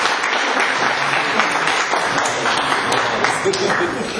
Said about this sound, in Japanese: 皆さん、拍手よろしくお願いします。